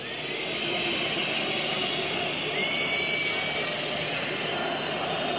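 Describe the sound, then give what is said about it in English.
A large stadium crowd of Turkish soccer fans sustains a steady, dense roar of booing, with shrill whistles cutting through at times, during a moment of silence for 129 dead before a soccer match in Turkey. The noise stays loud and unbroken throughout. “The moment of silence is these people booing and whistling at a memorial, a moment of silence before a soccer match for 129 dead innocents at the hands of Muslims.”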